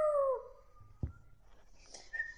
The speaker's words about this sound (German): Da bellte der Hund laut.